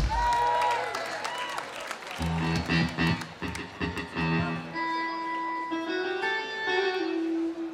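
An audience applauds and cheers with high whoops for the band's drummer, while a drum beat thumps through the middle and sustained instrument tones ring out toward the end.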